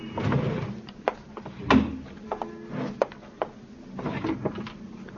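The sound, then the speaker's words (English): Wooden drawers of a roll-top desk slide and knock as someone searches through them in an upstairs tenement room converted to an office, with a series of sharp clunks and scrapes spread irregularly over several seconds. “Same things in the desk drawers”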